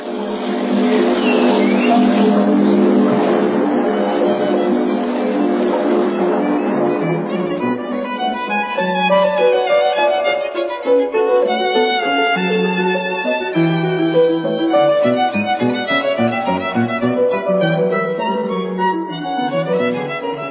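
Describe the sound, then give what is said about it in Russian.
Steady splashing water with a ringing, tinkling tone from the singing fountain by the Belvedere at Hradčany, Prague, giving way to a run of clear metallic notes at shifting pitches over a softer watery murmur. “Возникает в журчании поющего фонтана у Бельведера на Грачанах. Прислушайтесь.”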